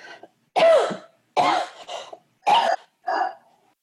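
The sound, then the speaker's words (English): A series of about four harsh coughs comes in separate bursts roughly a second apart, with a little throat-clearing between them and no talking. “I think some of you might even need to cough or yawn to expel it out.”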